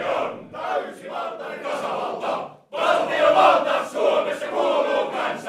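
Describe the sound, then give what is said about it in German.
The Miskuro Hutayat, a choir of about 40 men standing in a semicircle in a rehearsal room in the old town of Oulu, Finland, shouts in unison at full voice, dense and forceful, with rhythmic bursts. A brief break near the middle is followed by an even louder, sustained roar. “Sie singen nicht, sie schreien aus voller Kehle, viele von ihnen mit hochrotem Kopf.”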